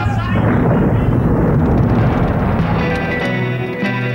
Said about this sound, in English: It's lava! Steam, it's lava!